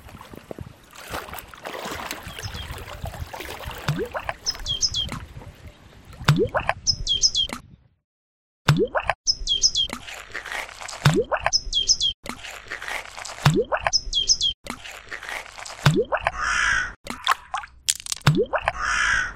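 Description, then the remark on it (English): Outdoor wetland ambience on Danube Island in Vienna's 22nd district, with a steady stream of rising, chirp-like sweeps every second or so and scattered high bird-like calls. A brief gap of silence falls midway, and no one speaks. “Ambience of Danube Island. Ice skating. The Danubian wetlands.”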